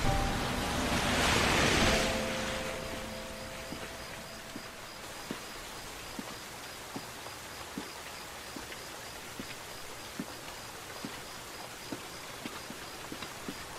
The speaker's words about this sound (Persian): گیهان توی خیابون زیر بارون قدم میزنه